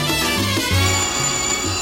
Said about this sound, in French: Le téléphone.